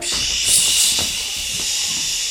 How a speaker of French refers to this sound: Je cours sous la douche.